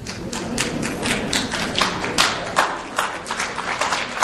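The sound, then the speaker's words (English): An audience applauds, a dense, steady patter of many hands clapping at once that holds fairly loud and even for several seconds, with a few sharper claps standing out and no voices. “So, from that applause, I think I know who agrees with me, and I think the others probably want to kill me right now.”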